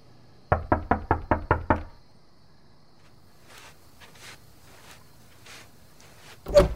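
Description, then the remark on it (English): Six quick, firm knocks on a door at around 1 a.m., in an even rhythm, followed by a hush with faint shuffling sounds, then one sudden loud thump near the end. “Then one night, around 1 a.m., there was a knock at the door.”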